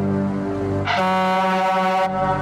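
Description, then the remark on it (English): A loud, sustained air horn blast blares as a jump scare in a movie, its harsh tone swelling brighter and more piercing through the middle before easing back, with no voices. “Yeah, King always has a good air horn in his movies.”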